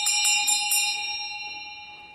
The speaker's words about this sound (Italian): Questa è la campana.